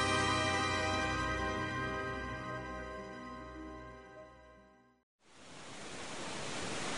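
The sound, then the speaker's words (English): A low, steady droning hum with layered tones cuts off abruptly, and after a brief silence a loud, dense roar of heavy jungle rain pounds through leaves and branches without pause. “Rain pounded through leaf and branch with a roar that made conversation possible only in shouts.”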